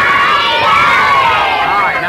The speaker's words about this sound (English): All right, now look, all you boys and girls here in the peanut gallery, when Clarabelle tells you to yell Howdy Doody, let me hear you yell it. Howdy Doody, come on.